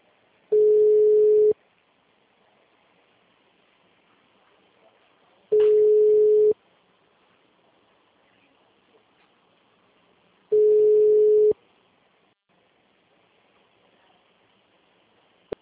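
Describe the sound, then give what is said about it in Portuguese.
A telephone ringback tone of an outgoing call to a mobile phone, placed while the caller enters activity, name, CPF and phone number, sounds three times, each a steady mid-pitched beep lasting about a second, separated by roughly four-second gaps of near silence. “Nesse caso, enquanto tá chamando, você já vai colocando a atividade, nome, CPF, telefone certo.”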